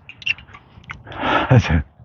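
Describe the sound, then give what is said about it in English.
Someone drinking water: a few soft sips followed by two or three wet gulping swallows in quick succession, fairly loud and intimate, with no talking. “I'll drink of water.”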